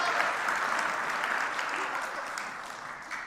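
Steady applause from an audience, a dense rush of many hands clapping at once, holding fairly even in loudness for a few seconds before easing slightly.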